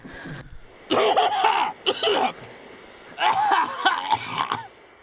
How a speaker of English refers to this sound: Let us hear the cough again.